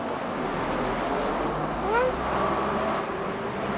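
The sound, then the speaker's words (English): A constant, dense roar of traffic on a busy road, with cars passing in a steady wash of noise and a brief high-pitched rising sound cutting through midway. “It's too dangerous. Too many cars.”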